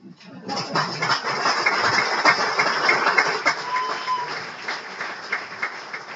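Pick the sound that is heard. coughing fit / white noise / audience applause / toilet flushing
audience applause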